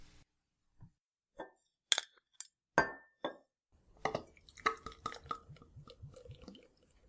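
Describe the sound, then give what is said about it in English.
A few sharp glassy knocks and a ringing clink as a bottle of stout is opened and glasses touch, followed by a stretch of busy fizzing, clattering sounds. No one speaks. “got the beer, got the glasses.”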